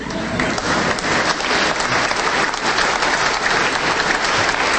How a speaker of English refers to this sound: Kit is here today, and I believe he also deserves a round of applause and perhaps his own retirement plan.